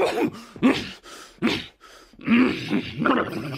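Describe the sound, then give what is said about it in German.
A male voice actor in a radio play uses only his voice to imitate a dragon landing and sneezing: a series of rough, guttural growls and huffs rising and falling, ending in a louder snorting, sneeze-like blast. “hat in einem Hörspiel mal einen Drachen zum Landen gebracht und ihn gleichzeitig niesen lassen. Nur mit der Stimme.”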